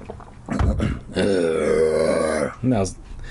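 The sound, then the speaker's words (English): A voice imitates a monster's deep growl: a short guttural grunt, then a long, loud, rumbling growl held for over a second, ending with a brief second grunt. “He glared at me, then he let out a deep growl. I'm gonna drink some water, then try to growl.”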